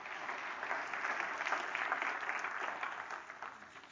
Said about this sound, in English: Come on, give the Lord a good clap off. Would you come on?